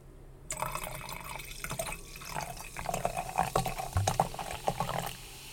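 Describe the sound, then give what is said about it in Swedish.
Wine glugs and splashes as it is poured into a glass, a steady gurgling stream with bubbly, irregular pulses lasting several seconds, with no talking over it. “Först och främst ska jag hälla upp lite vin.”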